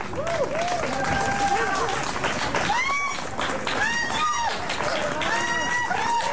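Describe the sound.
Steady audience applause for a band fills the whole stretch, loud, with scattered cheers and whistles rising above the clapping and voices mixed in.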